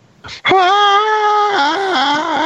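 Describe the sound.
A voice imitates a scream: a short breathy burst, then a loud, strained, sustained cry held steady for about a second before wavering and dipping lower in pitch toward the end.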